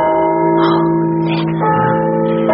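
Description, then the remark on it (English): The great bell of a church in London rings out loudly, its deep, layered tones humming steadily, with fresh strikes swelling the sound every second or so and no voices present. “The great bell. There are some who would stop it.”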